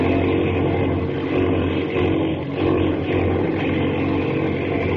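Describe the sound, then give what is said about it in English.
A propeller airplane engine roars loudly and steadily, continuous, with a brief dip in intensity midway before surging back to full power as the plane is pulled out of a spin. No voices. “Grab the controls. Bring her out of that spin.”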